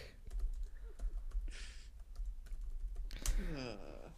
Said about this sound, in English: Okay, I'm fucking typing here. It's not fucking letting me go. It's not letting me type the I. okay, that's why my numbers lock is on for some reason. Which is affecting me typing letters.